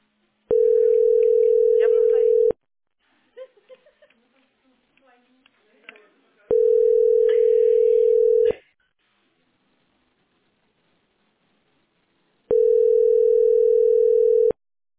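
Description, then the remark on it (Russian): A shared-channel telephone line tone sounds three times, each a loud, steady two-second hum separated by long even pauses, with faint muffled voices and rustling in the gaps. “Ну так это общеканальный телефон.”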